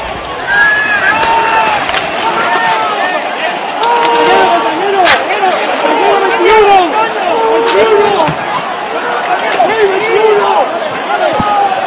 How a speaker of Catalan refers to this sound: Tenim el tall, us aviso que, clar, això està tret del mig d'una manifestació on estan havent-hi pilotes de goma, crits... Parem bé l'orella i escoltarem aquest conya.